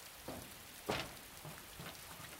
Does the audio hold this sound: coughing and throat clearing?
no